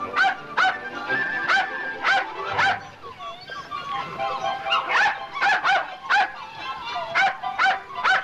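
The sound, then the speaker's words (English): A white female terrier and her white puppies with brown markings bark from a pen in quick, high-pitched bursts, with whiny whimpering between the yaps. The barking is lively, falls away briefly midway, then picks up again in rapid clusters. “a pen holding a white female dog and white puppies that have brown markings.”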